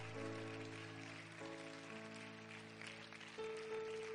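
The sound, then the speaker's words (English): A crowd claps continuously in praise in a dense, steady wash of applause, with sustained organ-like chords holding underneath throughout. “Somebody clap your hands and lift your voice tonight.”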